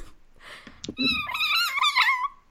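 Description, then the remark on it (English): A person imitates Scabbers the rat squealing with delight at being awarded the real weirdo: a loud, high, warbling squeal like a little pig that wavers up and down for about a second, preceded by soft breathy huffs and a short squeak. “Okay, well, Scabbers is squealing with delight the being awarded the real weirdo. Like a little pig.”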